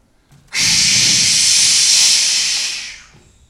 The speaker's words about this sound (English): High pressure water cannons streaming, powering through the side of a house, through bricks, concrete, and steel. Water cannons that are so powerful that they can shoot 10 stories high straight up into the air.